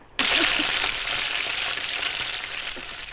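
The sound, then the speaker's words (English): Bacon sizzling and crackling in a hot pan, a dense, steady hiss with small pops that starts abruptly and holds at an even, fairly loud level with no voices. “I'm going to hit my bacon frying sound effect, and you tell us your bacon joke, okay?”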